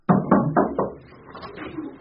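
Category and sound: household object, knocking on a door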